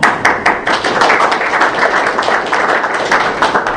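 A room full of people applauds steadily for several seconds, a dense, even patter of many hands clapping with a few sharper individual claps standing out near the start.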